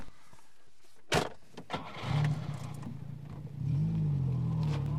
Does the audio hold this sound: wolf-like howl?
no